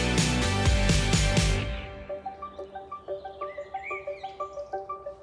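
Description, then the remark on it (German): A horse neighs loudly in the opening seconds at a children's home in Schadeleben with meadows and fields around it, then fades into quieter, evenly spaced pulsing calls that repeat steadily to the end. No one speaks. “Drei flache Häuser, Blumenbeete dazwischen, Wiesen und Felder drumherum und Pferde drauf.”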